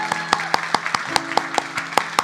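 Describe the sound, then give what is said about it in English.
A church crowd applauds and cheers for people who accepted Christ after a prayer, sharp, steady claps landing in a quick, even rhythm, loud and continuous, over a sustained wash of voices and tonal hum underneath. “Let's give it up for those people that accepted Christ.”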